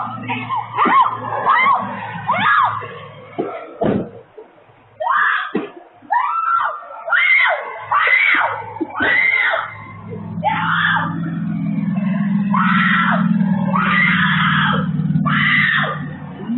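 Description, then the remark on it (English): A woman screams repeatedly in loud, frantic bursts while kicking and fighting off a kidnapping attempt outside a smoke shop in St. Augustine, Florida, caught on surveillance cameras; her cries rise and break over a low, steady rumble of background noise. “Brave Florida woman fights off terrifying kidnapping attempt, kicking and screaming, all caught on video.”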